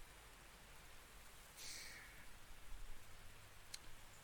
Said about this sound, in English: God, it's pouring out there. It's been raining down for hours now. I'm surprised it's still going.